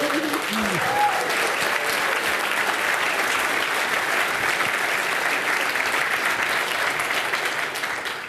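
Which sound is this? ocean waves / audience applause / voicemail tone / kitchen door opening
audience applause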